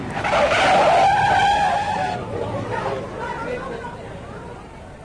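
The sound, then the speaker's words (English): A car engine roars as the car accelerates and a man runs straight into its path; tires screech into a loud skid that peaks early, then fades into a rumbling stop with faint voices murmuring. “Well, he ran straight into us, just as we were accelerating.”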